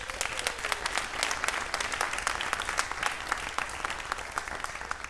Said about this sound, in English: Thank you so much, and give them a warm round of applause, please.